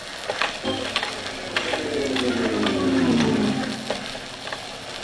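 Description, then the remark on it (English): A winch ratchet clicks steadily as a hydrophone is lowered to the 4,000-foot level for an underwater explosion test, a rapid train of sharp metallic ticks over a low, droning mechanical hum that swells and then slowly falls in pitch. “Get ready to lower the hydrophone.”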